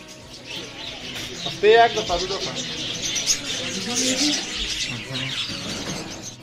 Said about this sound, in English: Sounds reach your ears before colors, layers of chirping, flapping wings, and murmuring conversations. It is a separate sound space, separate from the sound of vehicles, dust, and noise of the big city.